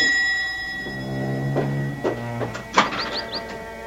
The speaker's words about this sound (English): And then the bell once more breaks out into an impatient clamor.